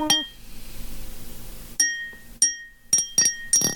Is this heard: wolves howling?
no